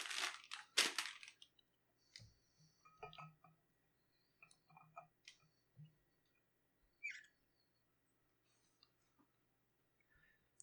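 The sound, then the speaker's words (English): A couple of loud crunching bites into a crisp homemade sandwich near a microphone, followed by quieter intermittent chewing crunches and small clicks, with no talking. “I don't want to crunch into the microphone, but this is a crunchy sandwich.”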